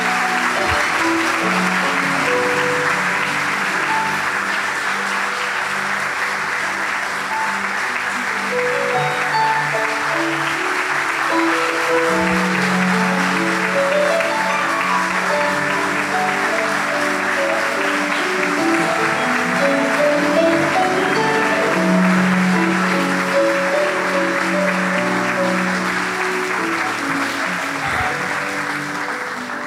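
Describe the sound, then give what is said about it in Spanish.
A church audience applauds God loudly and steadily for about thirty seconds, a dense, unbroken wash of clapping with sustained musical tones running beneath it. “Si vas a aplaudir a Dios, que sea más fuerte que eso.”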